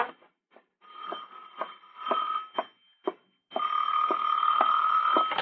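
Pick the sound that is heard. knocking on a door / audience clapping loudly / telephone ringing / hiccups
telephone ringing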